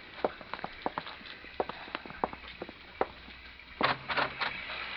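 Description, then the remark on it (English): Rain patters outside in scattered, irregular drops tapping at a steady moderate level, then briefly swells into a denser, louder rush near the end. No one speaks. “Still coming down. Sure is. From now on, I know where I want to spend all my rainy nights.”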